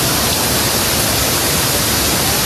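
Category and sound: nature, rain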